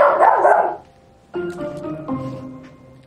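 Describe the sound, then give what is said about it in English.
A dog barks excitedly: a loud, rough burst, a brief pause, then two drawn-out, high-pitched yelping barks in quick succession. “Wow, you are excited. Loud. They're excited. The dog shakes.”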